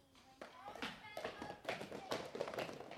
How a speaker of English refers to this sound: But then there was another knock at the door. And who was it this time? It was the shepherds.